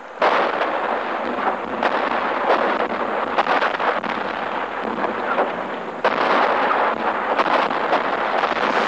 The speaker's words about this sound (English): A tremendous bombardment has started now on the coast defenses from the sky, and hundreds of Lancasters are raining down on the coast behind us with blockbusters.